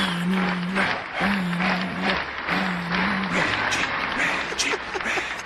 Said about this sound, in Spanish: Mira, ahí está el aplauso, ¿viste?